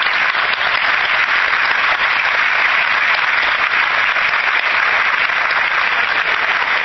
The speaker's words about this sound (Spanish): Y un aplauso para todos ustedes.